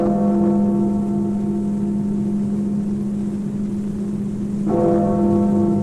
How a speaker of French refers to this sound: un certain Stanley Roper capte au plus près le carillon de Big Ben